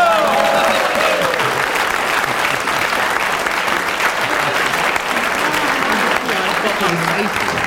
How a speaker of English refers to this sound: He certainly deserved his round of applause for keeping going, good.